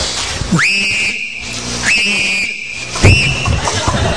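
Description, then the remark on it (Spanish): Three sharp, loud whistle blasts made by a person, each rising quickly to a steady high pitch and cut off, mimicking a football referee's whistle, with faint background noise underneath. “¿Cómo silba el árbitro de fútbol?”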